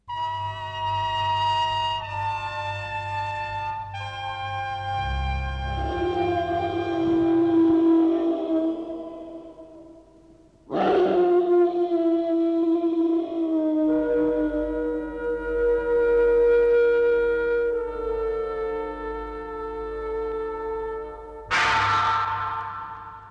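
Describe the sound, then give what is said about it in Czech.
A dog howls in long, mournful, wavering tones, three drawn-out cries whose pitch sags and slides downward, over a low steady hum with no talking. It is the Hound of the Baskervilles in a 1960s Czechoslovak Radio audiobook recording of the novel. “Ozývá se hlas psa Baskervilského z asi nejstaršího zpracování tohoto románu v audioknize, kterou natočil Československý rozhlas v 60.”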